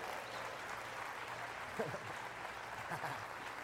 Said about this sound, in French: Voulez-vous applaudir un papa qui a eu un moment parfait?